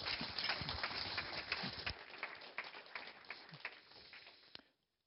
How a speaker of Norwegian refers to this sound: Gi han en applaus.